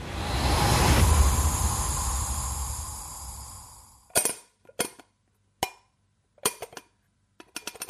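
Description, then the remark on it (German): A steady rushing, whirring noise lasting about four seconds, then an empty coffee cup, out of coffee, knocked and handled at Alexander Schlüter's home in a run of sharp, irregular clicks and clacks, with no talking. “So klingt übrigens bei Alexander Schlüter zu Hause eine Kaffeetasse, wenn sie nicht mehr mit Kaffee befüllt werden kann, weil der Kaffee leer ist.”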